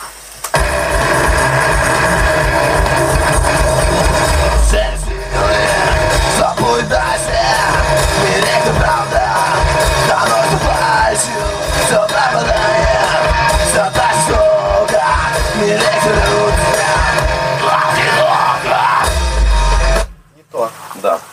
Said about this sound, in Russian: Ну тут не такой скрим нужен, тут, блядь, нужно петь, но петь надо мощно, короче. И блядь, здесь либо полностью хрипеть, либо чистым петь, без подхрипывания.